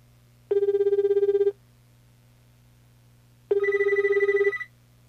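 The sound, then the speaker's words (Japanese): A telephone ringback tone heard over a speakerphone as a call is placed to Technomate from the phone's directory: two long buzzing rings separated by a pause of about two seconds, clear and fairly loud over a low steady hum. “これでですね、テクノメイトの方に、電話がかかっております。”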